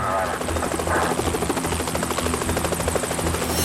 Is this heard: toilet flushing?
no